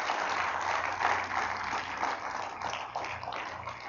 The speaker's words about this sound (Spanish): Dale un buen aplauso a Jesús por eso. Amén.